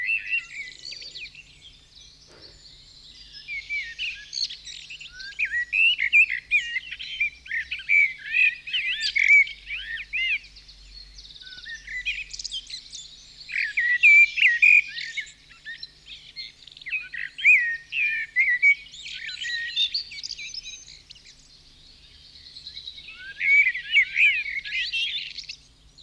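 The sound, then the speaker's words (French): A common blackbird sings a steady run of warbling, whistled phrases with short pauses between them, clear, continuing for the whole stretch with no voices. “Il y a le merle noir aussi.”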